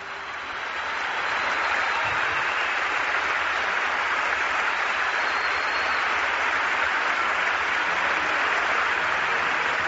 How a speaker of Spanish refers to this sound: Esta ovación de toda la marea roja es para ti, José Luis. ¡Ánimo! Así mostraba la afición del CAI Zaragoza hace menos de un mes su apoyo a José Luis Abós.